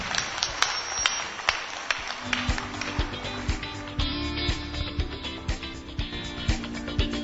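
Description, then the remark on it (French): A studio audience applauds to welcome everyone at the start of a Radio Okapi broadcast, with dense, crackling clapping that holds steady for several seconds, with some sharper claps landing in a loose rhythm and a low hum underneath. “Encore une fois, sous vos applaudissements, mesdames et messieurs, bienvenue à tous.”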